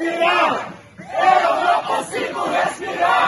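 A large crowd of protesters chants "I can't breathe" in loud, rhythmic unison outside a Carrefour store in Brasilia, Brazil, in the afternoon, voices rising and falling together in repeated bursts with a brief pause, energetic.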